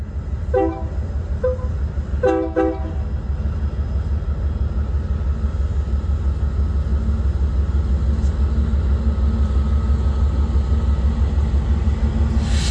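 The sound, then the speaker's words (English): A heavy stack freight train rumbles past in a steady, loud low roar, watched from the Western Pacific Museum in Portola, with a few short, bright horn blasts sounding near the start before the deep rolling noise carries on alone. “And behind me, you can see the stack train that we were just watching.”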